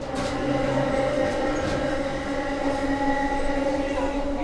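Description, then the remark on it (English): A MARC commuter train rolls along the rails with a steady, loud rumble and humming drone, faint wheel clatter running underneath throughout. “actually moved from Maryland to Martinsburg for the lower cost of living and access to the MARC train for her job.”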